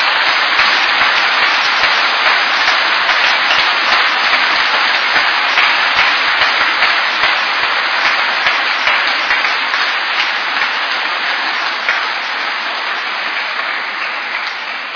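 A crowd applauds the Bishop steadily for the whole stretch, a dense, even wash of many hands clapping at a consistently loud level with no voices breaking through.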